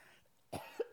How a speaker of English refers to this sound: I'm going to cough if you want to mute me for just a sec.